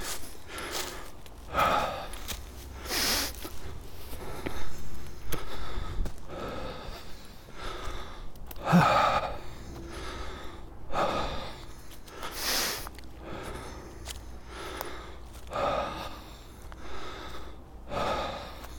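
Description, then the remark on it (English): Heavy, labored panting of a man walking over the hills, with rapid repeated breaths, gasps and occasional snorts in an uneven rhythm; no speech. “Spoken by this guy on a walk over the hills, puffing and panting.”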